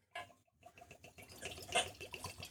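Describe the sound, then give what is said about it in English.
Blood Oath whiskey pours into a Blood Oath rocks glass, a steady glugging splash with a brief hitch near the start, then swelling slightly louder before it ends. No one speaks. “Once again, not a neck pour.”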